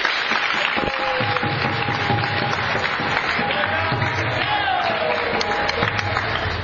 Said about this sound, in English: Clap, everyone.